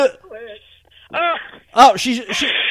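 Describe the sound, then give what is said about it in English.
Wet nose blowing by a female: a few snorting, honking bursts mixed with nasal vocal noises, ending in a longer, steady rush of air through the nose. “She's blowing her nose.”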